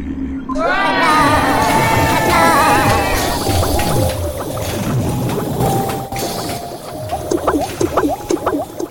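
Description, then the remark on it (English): Thick liquid bubbles and simmers steadily in a womb sac full of human genes in a gestation laboratory. Warbling, squeaky tones slide over it at first, then dense popping bubbles grow sharper toward the end, loud. “Bubbling recess of the gestation laboratory, a simmering womb sac full of human genes”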